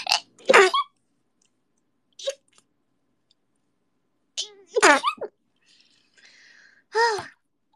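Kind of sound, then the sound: human body sound, sneeze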